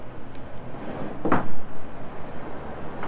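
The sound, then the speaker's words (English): A single short plastic clack and scrape midway through as a high chair tray is pulled off, against a steady low hum. “Oh, the high chair train's coming off.”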